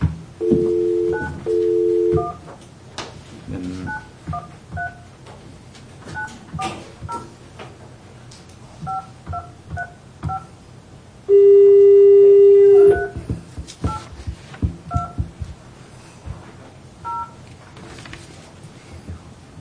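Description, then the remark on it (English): A touch-tone phone number being dialed to place a phone call: a quick string of short dual-pitched beeps at an uneven pace, interrupted midway by a longer steady tone, clear with no talking. “Oh, that's when you're supposed to put Chuck's numbers in.”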